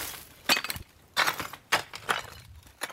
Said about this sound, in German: Das Dach des 1930 von Marlene Möschke-Pölzig und ihrem Mann bezogenen Hauses in der Tannenbergallee 28 ist bereits abgedeckt. Rund um die Villa liegen Ziegel und knirschen Tönern unter den Füßen des Besuchers.